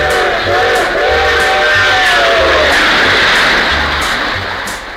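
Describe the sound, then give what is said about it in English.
A loud train, the 509, rumbles by, its whistle sounding a sustained harmonic blast for the first few seconds while rhythmic wheel clatter and heavy roar continue throughout. “It comes and goes through the middle of the house, and the trains are all on time. And here comes the 509.”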